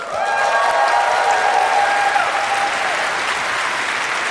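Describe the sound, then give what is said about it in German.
Steady, enthusiastic applause from a sizable audience fills the space, rewarding the first score of 10 of the evening; dense clapping is sustained throughout, with a few whistles ringing out over it near the start. “Und das ist jetzt einen besonderen Applaus von euch wert.”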